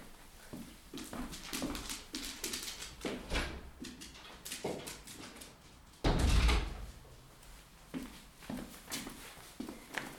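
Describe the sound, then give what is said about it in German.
A door is handled and opened to let a dog out of the room, with a heavy thud or bump around the middle, amid shuffling footsteps and the light pattering movement of the dog, with no one talking. “Bevor ich zum nächsten Punkt komme, ich muss einmal den Hund aus diesem Raum lassen, weil mein Mann ist offensichtlich fertig mit seinem Call und sie tappelt hier rum und bringt mich völlig aus dem Konzept.”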